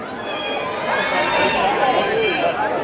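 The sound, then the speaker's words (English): A large crowd of thousands of people waiting outside a hotel in London for Dolly to emerge chatters all at once, a dense, steady wash of overlapping voices with no single speaker standing out, holding a fairly loud, even level throughout. “It's mayhem. Can we clear the back door just for the photo call? Not only are thousands of people waiting for Dolly to emerge, but all weekend long, all throughout London.”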